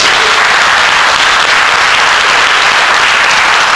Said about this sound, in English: Give God another hand clap.